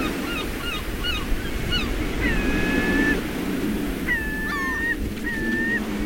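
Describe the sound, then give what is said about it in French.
Strong wind roars steadily, muffled as heard from behind a door of a boat, a dense low rumble throughout, while several high, drawn-out calls of seagulls ring out over it. “On est derrière une porte d'un bateau et on entend le vent et on voit les mouettes.”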